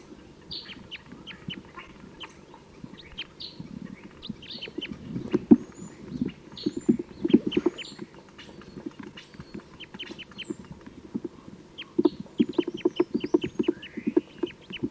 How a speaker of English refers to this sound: Here's some wild birds. 298 is responding loudly to these wild birds on Mount Tam.